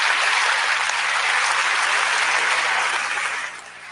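Loud, enthusiastic applause from a large debate audience for Hitchens after his speech, a dense steady roar of clapping that holds for several seconds before dropping off slightly at the end. No one speaks over it.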